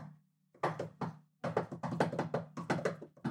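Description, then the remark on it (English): A rhythmic secret-knock pattern rapped on a hard surface: a few quick knocks, a brief pause, then a longer run of sharp raps in a lively rhythm, with no talking. “I gotta give the secret knock.”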